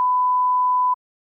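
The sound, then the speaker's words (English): A single steady electronic beep from a mobile phone in a classroom during a lesson, a clear high tone held for just under a second before cutting off into silence. No one speaks. “Is it your phone?”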